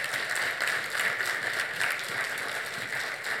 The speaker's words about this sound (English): Now, that applause is for him, not me.